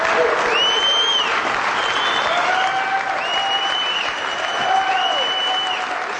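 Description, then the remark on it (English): Sustained, dense standing-ovation applause from a large crowd at an event in Franklin, Tennessee, after a speaker finishes, steady and loud throughout, with faint whistles or cheering tones rising above the clapping at times. “It took so much courage that the crowd got the point after a day of talking about courage, and when Brewer finished, they stood up for him.”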